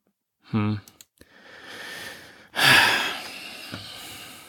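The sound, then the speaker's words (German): Heavy breathing: a short voiced snort and a few small clicks, then a long rushing exhale followed by a louder, deeper breath that slowly fades. “Und der … atmet schwer. Ja, ich atme schwer.”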